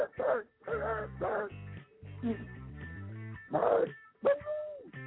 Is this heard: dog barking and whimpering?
yes